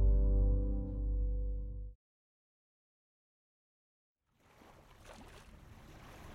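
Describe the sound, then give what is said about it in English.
A deep, loud droning tone cuts off into a couple of seconds of silence, then ocean waves wash and hiss steadily around a ship out on the ocean at magic hour, at moderate volume. “Exterior, ocean, the ship, magic hour.”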